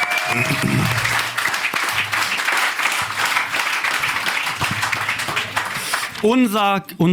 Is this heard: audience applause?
yes